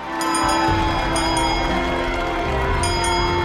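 A small silver handbell, just found in a present box, rings with a bright tone shimmering continuously, a few sharper strikes spaced through the ringing and a loud, sustained ring throughout.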